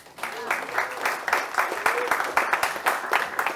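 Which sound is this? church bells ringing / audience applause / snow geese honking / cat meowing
audience applause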